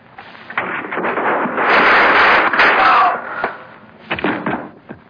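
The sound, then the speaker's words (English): A loud, rough blast of gunfire, a man being shot, swells for about a second, set among several sharp cracking bangs before and after it, with a muffled rumbling clatter underneath. “I just shot a man.”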